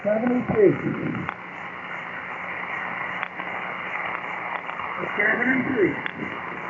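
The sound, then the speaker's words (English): A faint, garbled voice comes through heavy static on a ham radio check-in transmission, with brief bursts of muffled speech at the start and end and a steady hiss of noise throughout. “But I'm not able to make out much of what you're saying there.”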